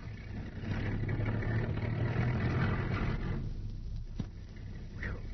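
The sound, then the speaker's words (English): A car engine rumbles as the vehicle backs out at midnight, then moves past and fades slightly, its low steady drone filling the scene before a brief click near the end. “By Jove, they're backing out.”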